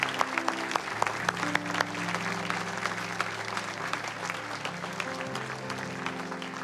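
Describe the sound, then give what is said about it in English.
An audience claps steadily, many hands blending into a dense, continuous patter with a few sharper claps early on, while a low sustained musical tone hums underneath. “Yes, would you keep clapping?”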